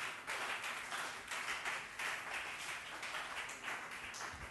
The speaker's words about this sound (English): If you're excited about what I'm preaching, clap your two hands for Jesus.